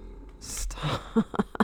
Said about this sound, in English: Okay, my dog is snoring, but it is White Rhythmic Dog.